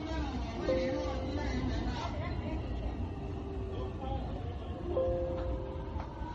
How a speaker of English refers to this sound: This is on a subway.